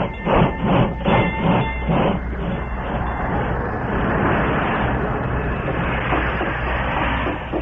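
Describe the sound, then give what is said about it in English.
A train brakes to a stop at a railroad station platform, with a few rhythmic clanks of the cars at first giving way to a steady, loud rumble and hiss, and faint high squealing tones. “As the train braked to a stop ahead of schedule, he was glad he was on hand early to meet it.”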